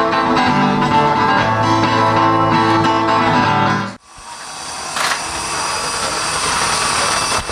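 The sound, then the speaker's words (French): A chestnut splitting machine runs loudly with a dense, droning mechanical roar, then abruptly shifts to a steady hissing whir with a brief clatter partway through. “Alors là, vous entendez le bruit incroyable d'une machine que j'ai jamais vue.”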